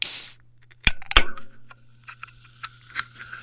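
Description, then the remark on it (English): A seltzer can cracks open with two sharp metallic snaps and a quick hiss, followed by a faint, steady fizz of bubbles popping and crackling. “For me, it was a seltzer.”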